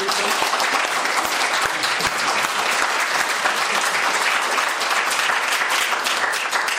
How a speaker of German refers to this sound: Wunderbar. Machen wir einen Applaus.